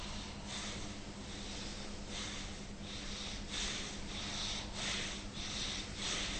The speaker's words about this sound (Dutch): Dat is een heel oppervlakkige ademhaling, want je zit alleen met de bovenkant van je borstkas te ademen.